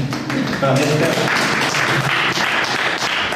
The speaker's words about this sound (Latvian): Skan aplausi pēc tam, kad notikusi kārtējā izloze nākamajai izstādei.